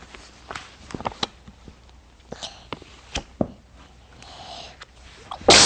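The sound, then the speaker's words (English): A single loud sneeze bursts out at the very end, preceded by several seconds of quiet clicks, rustles and faint movement noises with no talking. “Bless you.”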